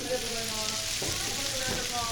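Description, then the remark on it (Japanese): Yaki gyoza sizzling steadily on a hot griddle at Utsunomiya Minmin Station Bar in a station building, a dense, continuous crackle and hiss, with some faint kitchen clatter and muffled background voices underneath. “この音だけでよだれが溢れ出す。”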